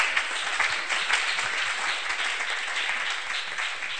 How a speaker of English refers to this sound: Are you clapping for the Lord?